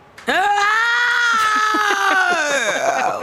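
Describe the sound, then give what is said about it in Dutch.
A voice imitates a clarinet playing with circular breathing from a score, in one long, unbroken reedy tone, holding a steady pitch that dips slightly near the end, loud and sustained for about three seconds without a breath. “En ik dacht, ja, het was een partituur met klarinet en die deed circular breathing, dus circulaire ademhaling. En ik dacht, ja, ik zal het ook maar imiteren en ik heb dat gedaan.”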